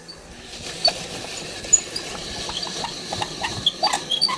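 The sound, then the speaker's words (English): A hand-cranked apple peeler turns steadily during a kitchen canning demonstration, its little blade catching the peel and taking it off, making a continuous scraping, rustling whir with scattered light clicks and brief high squeaks from the mechanism. No one speaks. “You'll recall the fun hand crank apple peeling gadget.”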